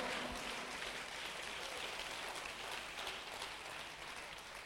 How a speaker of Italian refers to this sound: Vogliamo applaudire e benedire il nome del Signore.